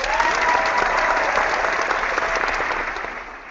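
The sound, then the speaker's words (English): A large cup-match stadium crowd cheers and applauds in a dense, steady roar that holds for a few seconds before starting to fade. No one speaks over it. “So let's fire up the cup crowd, and let's get going.”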